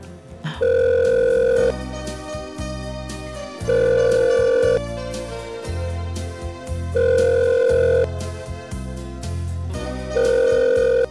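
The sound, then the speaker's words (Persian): A phone call placed during a radio program rings out: four long, steady electronic ring tones, each about a second, evenly spaced by short pauses, over a continuous bed of music with deep bass notes. “زنگ بزنم آقا منوچهر”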